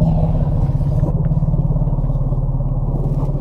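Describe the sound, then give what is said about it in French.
A very deep elephant alarm call: a loud, sustained low rumble with a rapid throbbing, engine-like buzz that holds steady for several seconds, with no voices. Produced by an elephant during a flight reaction, as an alarm signal warning of bees. “certains individus peuvent produire des barrissements très graves, comme celui-ci.”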